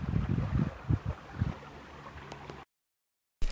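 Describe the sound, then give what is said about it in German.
A river babbles with a steady, hissy wash, broken by low, irregular rumbling thumps for about two and a half seconds, then cuts abruptly to silence before a brief sound returns. “Danke, dass du dir diese wunderbare Folge ausnahmsweise mal in etwas geringerer Qualität angehört hast und hoffe, dass du trotzdem noch, ja, für dich vom Inhalt viel mitnehmen konntest und dich auf das wunderbare Plätschern im Hintergrund”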